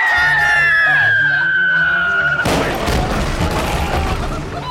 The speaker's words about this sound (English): And there is the whistle of a shell. Uh-huh. And it's getting louder. Cannonball!